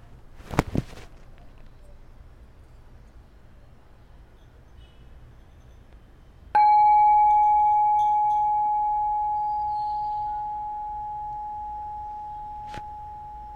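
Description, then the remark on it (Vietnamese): A single meditation bell is struck once, ringing out with a clear, pure tone that lingers and slowly fades over several seconds amid silence. “mình lắng nghe tiếng chuông.”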